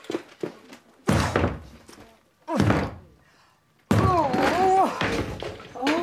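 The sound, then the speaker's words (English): Heavy, forceful blows batter a door as it is broken down with a fire extinguisher: three loud, booming thuds spaced a second or so apart, the last followed by raised voices over the din. “Right, you've got to break the door down.”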